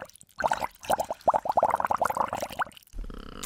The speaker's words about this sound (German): Ich habe hier einfach eine Schüssel Wasser. Wenn wir da mal so richtig reinpupsen... Und ich habe so ein... Trinkhalm, ja. So ein Röhrchen.